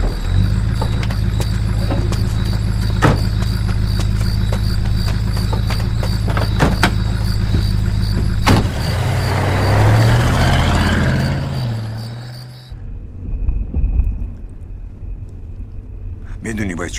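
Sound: car driving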